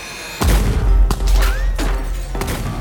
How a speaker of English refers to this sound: Finally, the line of prisoners gets to the administration building, just steps away from the outside world, just steps away from freedom, when a guard challenges them. Before anyone can think, the sound of gunshots rip through the air.